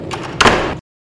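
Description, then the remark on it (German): A shed door swings shut during an April thunderstorm with rain and hail, a brief scraping rustle ending in a solid knock, then silence. “Ich versteck mich lieber im Schuppen.”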